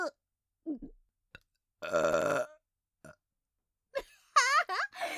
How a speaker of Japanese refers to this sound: やべえ、来た来た。でっけえの来る。ほら、てめえの前でぶっこいてやんよ。あたしの特大ザージルゲップ。